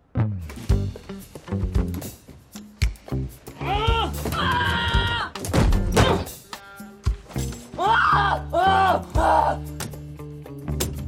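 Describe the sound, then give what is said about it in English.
Repeated heavy thuds and bangs, like someone forcing or rattling a stuck door, come at an uneven rhythm, mixed with strained, wavering vocal sounds in between. “Oh, because I hear some banging noises as if someone was struggling to open the door.”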